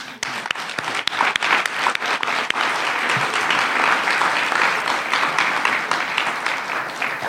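A crowd at a gathering of speakers and workshop presenters breaks into sustained applause, dense overlapping claps at steady loudness for several seconds before easing slightly toward the end.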